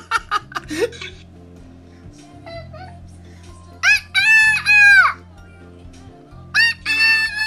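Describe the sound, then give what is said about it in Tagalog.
A person imitates a rooster, letting out two loud, drawn-out crowing calls after a few sharp clicks, with a steady low hum running underneath. “Ano ang sound sang manok na lantik nila ako?”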